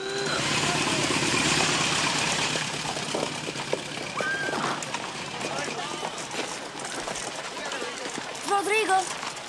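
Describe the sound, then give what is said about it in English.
A shiny new early motor car's engine rumbles loudly, then fades as it drives away through a busy town in Mexico in 1916, leaving background noise and indistinct voices. “Sitting on horseback being led by a young boy, a pretty dark-haired Mexican woman watches a shiny new motor car driving past.”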